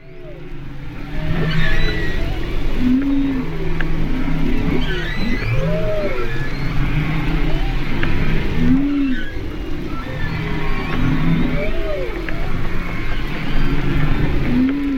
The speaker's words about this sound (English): Bet you can guess that's the sound of humpback whales nursing babies in an area between Maui, Lanai, and Molokai, Hawaii. Our listener Mike and his wife Pam went on a whale-watching trip in Hawaii yesterday.